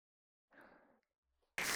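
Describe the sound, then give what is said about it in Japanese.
A short burst of fizzing, crackling carbonated foam being worked in the hands, with a fine popping texture, followed after a brief pause by a sudden loud rush of noise. “あわあわパチパチ。”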